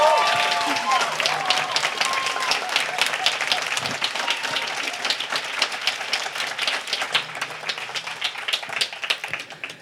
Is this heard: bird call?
no